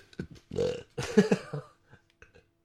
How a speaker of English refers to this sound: I have to burp. Excuse me.